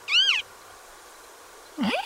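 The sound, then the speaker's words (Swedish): A male western marsh harrier's spring display-flight call as it rises high and tumbles about in the air: two squeaky, whining cries separated by a long pause, the first high and arching downward, the second swooping low then rising again. “Men under våren så stiger hanarna ibland högt upp till väders och tumlar omkring där i en lustig spelflykt medan de ropar så här.”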